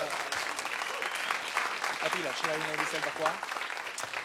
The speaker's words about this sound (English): But you get to be the daddy of them all. And I suppose we should give them a round of applause for 40 years.